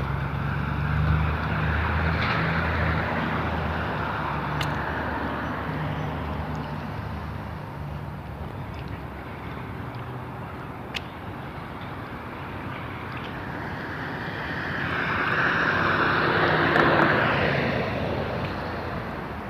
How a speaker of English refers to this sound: I'm not sure how far I'm going to go on this boat.